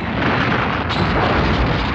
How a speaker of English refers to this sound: What's happening? Nuclear explosion!